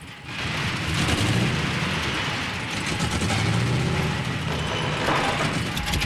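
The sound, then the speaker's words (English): The car Christine's engine rumbles low and steady as Arnie drives it slowly forward into a garage through a corrugated metal door, its deep idle rising slightly at moments, with a faint mechanical rattle underneath and no voices. “The corrugated metal door slides upwards, then Arnie drives Christine inside.”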